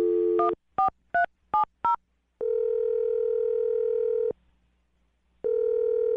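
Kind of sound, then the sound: signal or alarm, telephone number being dialed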